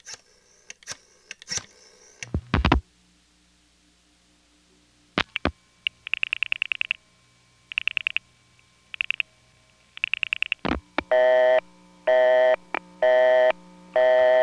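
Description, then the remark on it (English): A telephone line busy signal, heard when dialing the number 8536 from a second home line: after clicks and handset clatter, short tone bursts give way to a loud, steady on-off beeping in an even, repeating rhythm, with no voices. “Busy. Well, maybe these numbers don't work as a party line.”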